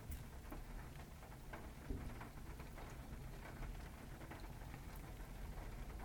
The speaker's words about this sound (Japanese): 外で取るのも気持ちいいかなと思って、今外に出てきました。よく聞くと雨の音が録音に入っていますか？